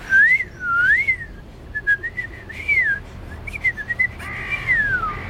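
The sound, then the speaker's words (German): A person whistles a wavering, looping melody imitating a blackbird's song, with rising and falling phrases repeated over several seconds, fairly loud against a faint background hiss. “Am besten eine Amsel. Wie macht eine Amsel?”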